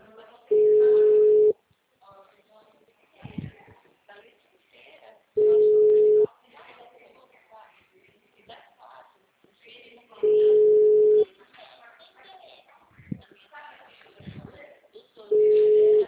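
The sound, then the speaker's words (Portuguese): A blocked phone line's unavailable tone: four long, steady mid-pitched beeps, each about a second, repeating roughly every five seconds, with faint muffled voices and shuffling in the gaps. “Tá, muito telefone bloqueado.”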